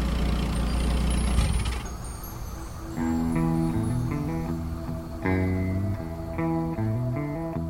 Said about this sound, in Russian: Потому что машина, столько лет служившая мне верой и правдой, заглохла.